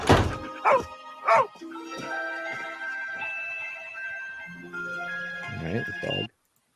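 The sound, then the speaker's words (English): A dog barks in short, sharp bursts, three quick ones at the start and a couple more near the end, over a steady humming background. “Right, the dog. Hold on a minute.”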